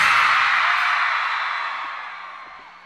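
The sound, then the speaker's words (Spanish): A big crowd of women at a concert lets out a loud, high-pitched collective scream that swells at once and then slowly fades away over a few seconds, with no speech over it. “Así que un grito fuerte, las mujeres, a ver cómo se oye.”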